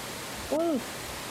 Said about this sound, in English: Is that the pink noise? This is the pink. Yep. Yeah, it's way comfier than white noise is. Ooh, yeah. I just love that. So soft.